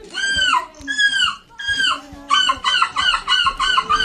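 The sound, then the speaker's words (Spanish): Several human voices imitate seagull squawks in a contest, a few long wailing calls followed by a rapid series of short, loud, overlapping squawks. “¿Cómo suena el graznido humano, el graznido de gaviota imitado por seres humanos?”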